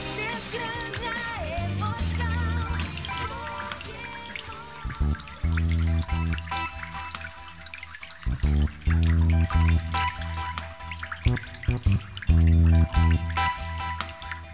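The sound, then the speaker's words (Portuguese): A urination sound effect: a steady trickle of liquid runs for about fifteen seconds, fairly loud and continuous, with a few brief breaks in the stream and no voices over it. “Dá uma mijadinha.”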